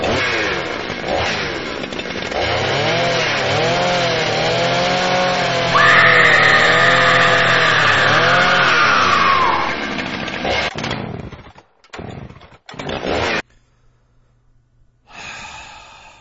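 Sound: chainsaw running and revving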